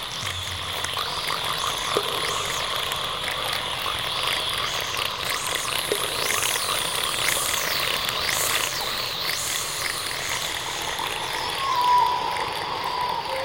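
waterfall

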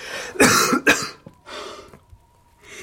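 choking cough

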